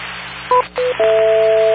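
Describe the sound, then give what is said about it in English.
Telephone keypad dialing tones: two short beeping tone pairs, then a steady two-pitch tone that holds to the end, all clear and fairly loud over a constant hiss with no talking. “And then after that, I'm going to pick up the phone.”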